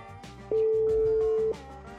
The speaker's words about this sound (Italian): E squilla il telefono. Il telefono squilla. Risponderà? Penso di sì. Penso di sì.